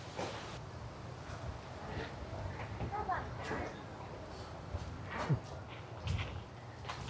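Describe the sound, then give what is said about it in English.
Baby goats shuffle about a pen, their small hooves making scattered light clops and scrapes, over a steady murmur of background noise and indistinct voices. “It looks like they have all the adult goats over in the pen over there, and then the baby goats are in here.”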